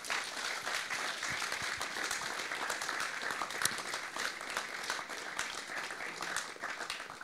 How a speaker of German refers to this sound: Ja. Cool. Danke vielmals. Noch einmal einen herzlichen Applaus.